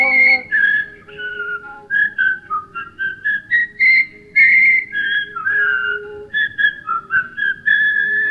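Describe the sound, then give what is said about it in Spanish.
Everyone at a party whistling together: a continuous run of whistled notes forms a bouncy, sing-song melody, loud, with short phrases and brief pauses over a faint low hum, and no talking. “A silbar, todo el mundo a silbar, todo el mundo a silbar.”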